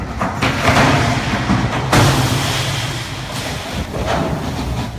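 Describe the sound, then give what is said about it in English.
The 90,000-ton cruise ship Infinity crashes into a dock in Ketchikan on a Friday afternoon, damaging itself and taking out shoreside facilities, recorded from a boat at a nearby dock: a loud, continuous rumbling roar with a sudden harsh crunching burst about two seconds in, then sustained scraping noise with no voices. “The 90,000-ton ship crashed into a Ketchikan dock Friday afternoon, damaging itself and taking out shoreside facilities.”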